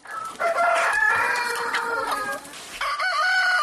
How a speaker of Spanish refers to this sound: El canto del gallo al amanecer, el cencerro de una vaca o el aroma del cucho son algunos de los elementos que los ganaderos quieren que sean inventariados como patrimonio cultural de Asturias y, por tanto, protegidos.